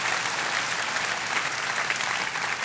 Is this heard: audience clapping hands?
yes